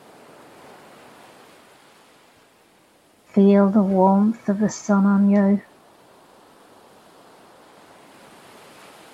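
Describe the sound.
Steady, hissing wash of ocean surf on a beach runs throughout at a moderate level, with a calm voice speaking briefly over it in the middle.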